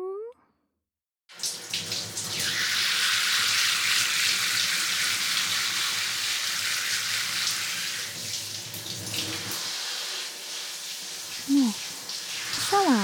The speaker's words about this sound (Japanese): あったかくて気持ちいいっしょ。じゃあシャワー行くよ。